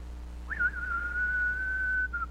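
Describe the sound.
Someone whistles a brief Western showdown-style tune, meant as the whistle for when Clint Eastwood walks up: a quick upward swoop settling into one long, steady held note, clear, with no talking.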